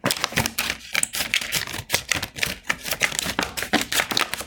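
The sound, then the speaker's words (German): Scissors snip steadily through the top of a milk carton, cutting a piece off, in a quick run of crisp cutting clicks repeating at an even rhythm for several seconds, with no voices. “Erstmal schneidet ihr oben ein Stückchen was ab.”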